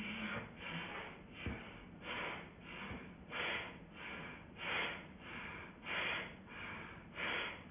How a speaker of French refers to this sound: Et là, on va faire un souffle de Vasrika. Donc une respiration avec le ventre.